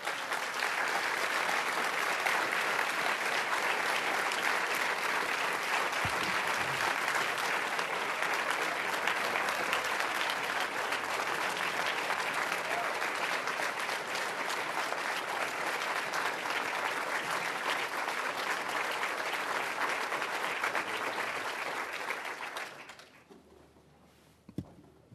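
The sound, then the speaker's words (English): Sustained, loud applause from a large audience welcoming Captain Chesley "Sully" Sullenberger at a Commonwealth Club event, a dense steady wash of clapping lasting over twenty seconds before tapering off quickly at the end. “What a great crowd. What an enthusiastic crowd.”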